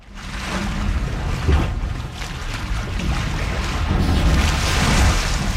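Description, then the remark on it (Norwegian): Broad, steady wash of sea sound with low rumbling swells and hissing spray, rising gently toward the end, like waves rolling in along a shore; no one speaks. “Da vi ute ved havet.”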